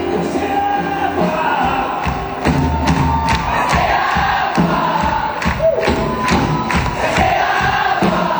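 A large concert crowd of about 3,000 fans at the Arène du Sud in Païta, New Caledonia, cheers and shouts continuously, a loud dense roar of voices with scattered whoops and sharp claps or thumps breaking through.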